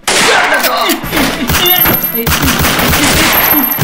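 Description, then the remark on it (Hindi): Loud, sustained gunfire: rapid bursts of shots crackle in quick succession for several seconds, dense and sharp, with a few heavier thuds among them and faint voices mixed underneath. “रुका भैया, हो गोली झन चलाओ भैया”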